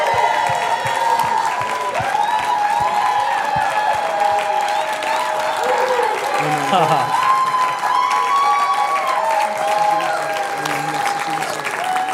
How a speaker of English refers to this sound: Hey, why don't we give Jesus a big hand clap? Est-ce qu'on peut acclamer le Seigneur Jésus maintenant?